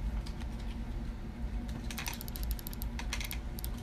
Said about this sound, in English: Oh, we're gonna hear clicking and typing. It's fine, I'll edit it out.